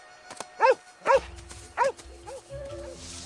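A dog barks three times in quick, loud succession, then a low rumbling hum carries on underneath after the barks stop.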